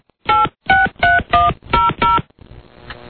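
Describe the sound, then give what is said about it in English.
Six loud, evenly spaced cell phone keypad tones beep in quick succession, each a short dual-pitched dialing chirp, as a call is placed to WMAO, followed by a faint hiss as the call begins to connect. “No, wait, he's whipping out his cell phone here.”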